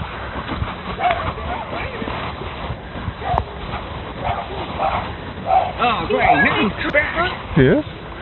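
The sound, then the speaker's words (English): A dog barks and yips in quick, excited bursts, growing busier toward the end, with muffled voices mixed in on a dull, lo-fi recording. “Come on, dog, come on.”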